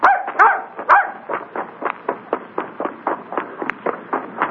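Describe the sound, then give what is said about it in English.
A dog barks rapidly and repeatedly, a steady string of sharp, mid-pitched yips with a few louder barks at the start, continuing without pause and with no voices. “Yeah, thanks to the dog.”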